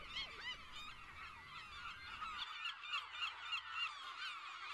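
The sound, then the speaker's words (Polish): A dense flock of geese honks continuously by a fisherman's hut on an island, many overlapping loud calls with steady chatter throughout and no voices. “Słychać ptaki, ciszę i zapach drewna.”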